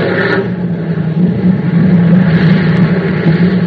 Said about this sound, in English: I want to watch the plane's approach. There's the first one now, sir. Oh, she's coming in nicely.